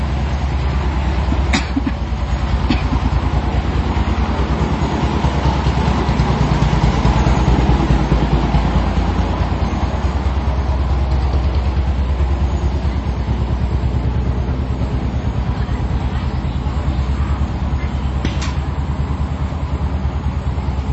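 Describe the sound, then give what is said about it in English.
A loud, steady engine chugs and rattles continuously, a rough low-pitched mechanical drone from a farm water pump engine fitted with wheels to drive a vehicle around, with a few brief clanks over it. “Because they take the farm pumps for pumping water to farm, and now they put it in, put wheels on it and drive things around.”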